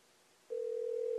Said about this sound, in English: How can it be ringing already?